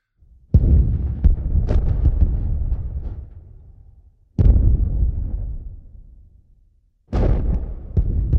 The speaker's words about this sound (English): Seneca guns. Oh, the Seneca guns. No, this is in the Carolina coast. It's what they call it. It's a phantom sounds that sound like guns. If you want to hear, here is an actual clip of the Seneca guns.